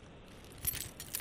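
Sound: keys jingling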